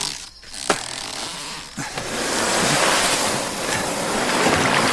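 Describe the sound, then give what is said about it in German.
A canoe that was moored is paddled across open water toward a fortified house built on a sandbank: a steady rush of sloshing water and splashes swells up after a couple of sharp knocks at the start, with some wind noise and no voices. “Mit dem Kanu, das hier festgetaut ist, werden wir hinüberpaddeln.”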